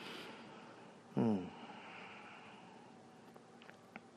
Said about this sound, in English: My air conditioner just came on as an example.